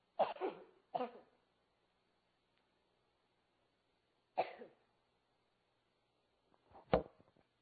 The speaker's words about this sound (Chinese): 吃个喉糖，喉咙有点痒，这几天在咳嗽，一点冷气我就好敏感